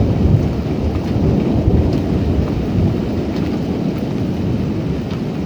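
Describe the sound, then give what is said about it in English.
Deep, rolling thunder rumbles continuously for several seconds after a lightning strike, loud and heavy in the low end, with a hiss of rain mixed in and no voices. “All right, there, lightning over there, but again, I got the camera pointed the wrong way.”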